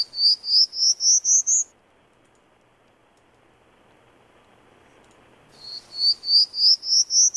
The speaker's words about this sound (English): and I'm just going to go back to the Prairie Warbler for a second. Great.